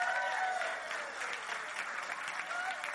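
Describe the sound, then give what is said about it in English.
An audience claps steadily for several seconds for the speaker, who has lost 19 pounds so far, a dense, even patter of many hands at moderate loudness with no voices rising above it. “Well, you really want to clap for me?”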